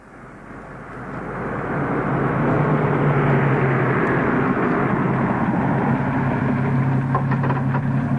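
A police car's engine rumbles up over the first couple of seconds, then holds a steady drone as the police car drives along and pulls up, with no voices.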